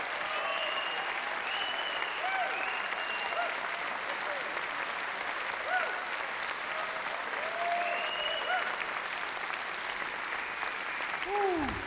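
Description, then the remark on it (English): A sustained round of applause from a crowd, steady and dense throughout, with scattered whoops and cheers rising above the clapping. “let's give a great round of applause.”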